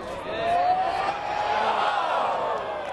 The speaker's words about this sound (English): And the crowd send-off for each tee shot sounds more like a kickoff at a football game.